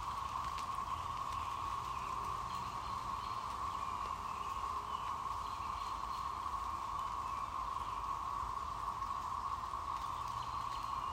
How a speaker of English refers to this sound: You can also hear the birds, the dripping of the raindrops.